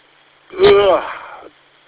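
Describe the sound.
A single drawn-out yawn, fairly loud, starting with a breathy intake and sliding into a voiced, wavering groan that trails off after about a second.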